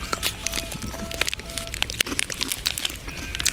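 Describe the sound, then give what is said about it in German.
Crinkling and crackling of a chocolate wrapper being opened, a dense run of sharp, bright crackles and rustles lasting several seconds with no talking over it. “Ich brauche ein Stück Schokolade.”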